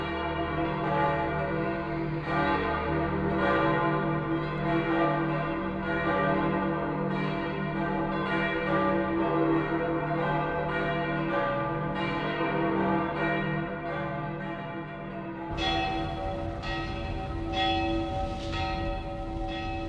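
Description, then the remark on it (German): The church bells of St. Peter's in Rome ring out in a full, sustained peal, several bells overlapping in a steady rhythm with rich lingering tones, the sound shifting to brighter strikes near the end. “Über alle Länder der Christenheit klingt der Ruf der Petersglocken in Rom.”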